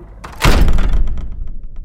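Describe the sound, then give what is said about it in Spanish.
A heavy thud as something slams hard against a wooden door, a single loud impact followed by a rattling, knocking resonance that fades over a second or so. “Y justo cuando cerramos la puerta, escuchamos otra cosa chocar contra la madera.”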